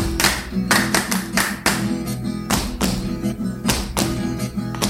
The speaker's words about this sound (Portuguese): E no Toque Musical vamos mostrar para vocês como se dança o catira, essa música que vocês estão ouvindo aí, ó.